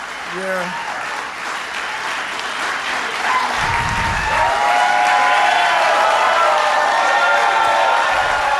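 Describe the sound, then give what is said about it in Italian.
A crowd at the White House applauds and cheers steadily for Donald Trump as he speaks live, a dense wash of clapping with rising shouts and whoops that grows slightly louder toward the end, with no break throughout. “L'applauso della Casa Bianca per Donald Trump, che sta parlando in diretta.”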